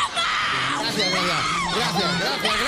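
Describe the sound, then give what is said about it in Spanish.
A crowd of fans screams and cheers continuously, many high excited voices overlapping loudly for a few seconds without a break. “Tanto grito. No acabo de entender por qué.”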